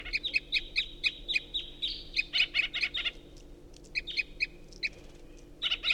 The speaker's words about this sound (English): So recording tooping from an unidentified bird. Up in the tree, a wild bird.